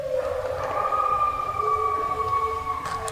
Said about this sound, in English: response howl gets the real wolves to join in.